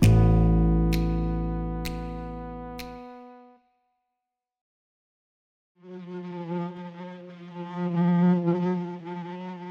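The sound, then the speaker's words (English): A ringing, sustained tone with a few sharp ticks fades into silence, then a steady, wavering buzz of a fly flying around a person's head starts up and hums on, swelling slightly in loudness. “Buzz, buzz, buzz around my head. Buzz, buzz, buzz, it wants my bread.”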